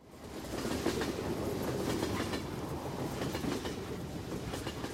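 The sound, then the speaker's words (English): A train comes into a station after dark, its wheels clacking in a steady rhythm over the rails under a loud, continuous roar, with no voices. “The train comes into the station.”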